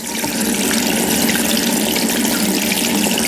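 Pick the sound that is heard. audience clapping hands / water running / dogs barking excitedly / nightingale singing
water running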